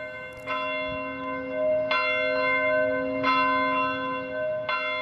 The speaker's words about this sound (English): Yesterday at 2:28 p.m., the city of Buffalo paused as bells from the city's churches tolled to mark 1 year